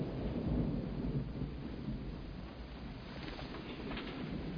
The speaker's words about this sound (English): Be careful. It's turning into a downpour.